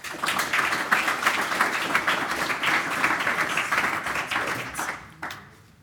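A crowd applauds with dense, steady clapping that holds strong for about five seconds, then thins out and fades to quiet.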